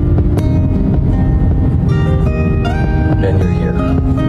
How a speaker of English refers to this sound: They drive to the airport, filming through the windshield of the car, and they do every step.